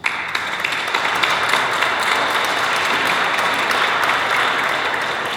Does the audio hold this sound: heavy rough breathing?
no